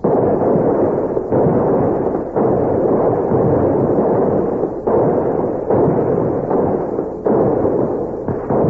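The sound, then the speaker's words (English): A gun salute from rifles and a swivel gun thunders out by a river, heavy booming blasts rolling into one another in a loud, continuous barrage with sudden shifts every second or so, and no voices. “We're going to fire a salute that'll open every door in town and bring everybody running down to the river.”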